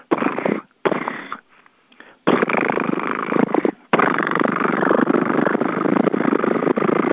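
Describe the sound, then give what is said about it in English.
A voice imitates a cat's purr with a fluttering, rolling tongue, starting in a few short bursts with brief pauses, then settling into a long, steady rumble. “The very act of fluttering the tongue is actually really connecting with the circular meridians, which is the central governing meridian and the triple warmer, I think.”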